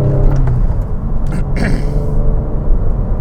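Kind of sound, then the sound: vehicle, car engine accelerating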